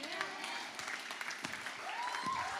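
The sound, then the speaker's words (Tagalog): An audience claps in a dense, steady wash of applause while people jump and shout, with scattered voices shouting and calling out over the clapping throughout. “nakikitang tumatalon, lumulog, susumisigaw, pumapalakpak.”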